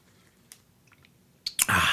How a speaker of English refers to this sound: Had to drink some water. I've been talking over 48 minutes, and I said, man, you better put some water down your throat.